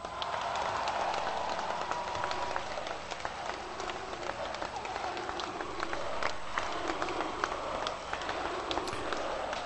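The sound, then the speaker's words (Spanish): A large gathered crowd shouts the name of Isabel Díaz Ayuso and cheers continuously, with scattered clapping cutting through the steady roar. The noise stays loud and dense throughout, and no single voice stands out. “Gritos ahora de Ayuso entre la gente concentrada.”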